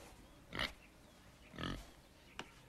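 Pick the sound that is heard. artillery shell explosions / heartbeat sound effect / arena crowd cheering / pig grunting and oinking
pig grunting and oinking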